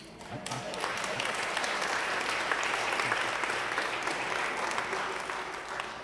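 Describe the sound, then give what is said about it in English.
A crowd breaks into sustained applause, a dense, steady wash of many hands clapping that swells quickly and holds at full loudness for several seconds before easing slightly at the end. “Can we give a big round of applause for all of them?”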